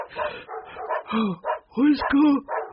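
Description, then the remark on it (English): Dogs bark in a rapid series of loud yaps and woofs, overlapping one another, while a voice talks at the same time. “Something's disturbing the dogs”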